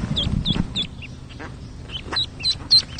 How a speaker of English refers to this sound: At our next stop, we found a duck in the backyard of a mobile home, and her eggs had just hatched.